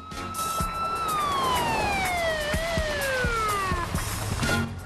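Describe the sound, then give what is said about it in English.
A loud police siren wails over rushing road noise as a police car tears down a New York City street at night, its tone sliding steadily lower as the car speeds in and pulls up by the sidewalk. “A police car tears down the road and pulls up by the sidewalk.”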